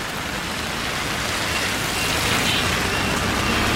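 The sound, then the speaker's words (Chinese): Busy road traffic hisses steadily past on wet pavement in the rain near a zebra crossing, a continuous wash of tire noise blended with falling rain, growing slightly louder toward the end, with no voices. “哦，现在好多车，我们现在要过去，要过斑马线。”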